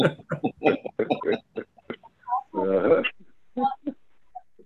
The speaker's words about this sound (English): I think it was a pig.